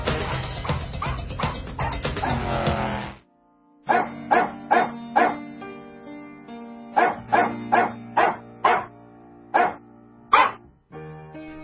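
Barks arranged into a melody, a dense run of rhythmic barking over a bassline, then a pause and groups of separate pitched barks in a tune over sustained backing music.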